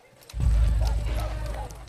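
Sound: horse hooves clip-clopping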